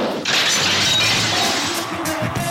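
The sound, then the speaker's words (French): A jingle built on a smashing sound effect: a loud, harsh crash bursts in and keeps roaring as a dense, shattering wash of noise, with faint tonal streaks threading through it. No one speaks. “Je m'excuse d'avance pour le jingle qui arrive.”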